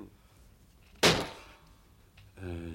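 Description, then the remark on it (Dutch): A single heavy door thuds, loud, its boom fading over half a second before a voice starts speaking at the very end. “Oké, jongens, de deur is open.”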